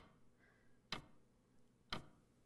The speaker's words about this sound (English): What? What's that noise? Huh. I didn't realize there was one. No. Now that you mention it, there is a ticking noise. Yes.